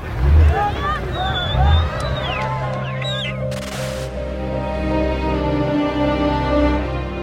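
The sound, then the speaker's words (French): A dense crowd clamors with overlapping shouts and voices over a steady, deep engine drone, packed at the foot of a ferry in Lebanon during boarding, hours in, for Yasser Arafat's evacuation by sea; a brief hiss of noise bursts midway through. “Et la foule est tellement compacte en bas du bateau que Abou Ammar, Yasser Arafat, est obligé de rentrer en voiture à l'intérieur du ferry.”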